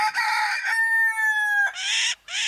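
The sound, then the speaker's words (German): A rooster gives loud, harsh alarm calls warning its hens of a fox on the ground: a raspy burst, a long strained tonal cry, then two short grating squawks in quick succession, with no talking. “Für jede Gefahr habe ich einen eigenen Warnruf.”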